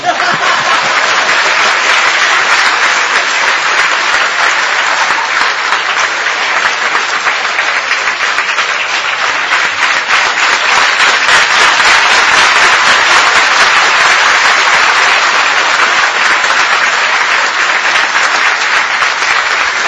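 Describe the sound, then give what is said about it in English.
A large audience applauds steadily for the full stretch, a dense, loud wash of many hands clapping at once with a few scattered chuckles mixed in. “Clap when I bark, but not when I...”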